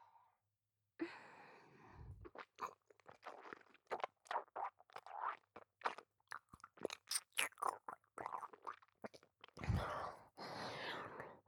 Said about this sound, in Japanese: こびりついてるカスは唾液でふやけさせて。咀嚼して。